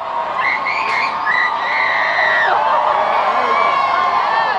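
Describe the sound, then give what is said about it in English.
A dense, roaring parade crowd cheers continuously while a girl of about 13 in a Tobin Heath jersey, standing on a barricade, screams and whoops loudly "Tobin, I love you!" as Tobin Heath passes on a float, the din carrying on steadily afterward. “She was probably around 13 years old, wearing a Tobin Heath jersey, standing up on a barricade, and she just, as Tobin Heath comes by on a float, just screams at the top of her lungs, "Tobin, I love you!"”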